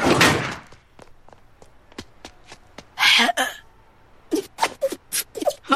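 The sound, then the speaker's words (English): An automatic sliding door whooshes open and shut, with a burst of rushing air, a string of sharp clicks and knocks, then more loud sliding and thudding. “Stupid automatic door.”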